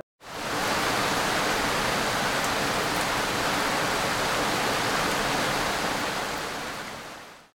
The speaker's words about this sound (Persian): من صدای باران پشت پنجرم. آرامی بارم تا غبار خستگی را از دل زمین بشویم. هر قطره‌ام یک نجواست، یک یادآوری از پاکی، آرامش و آغاز دوباره. وقتی به شیشه میخورم، انگار دارم با قلب‌های خسته حرف میزنم.